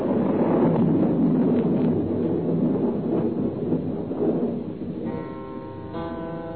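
thunderstorm with wind

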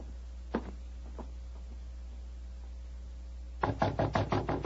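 knocking on a door

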